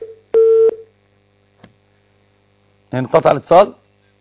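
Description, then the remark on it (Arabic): A steady low electrical hum runs under a dead phone line after a call cuts off, broken by one short electronic beep and a faint click, before a voice briefly speaks near the end. “انقطع الاتصال صحيح؟”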